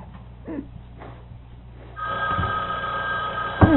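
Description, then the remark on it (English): An old-style telephone bell starts ringing abruptly partway through, a loud, continuous metallic trill that keeps going to the end after a few quieter scattered sounds. “That does make a lot of noise.”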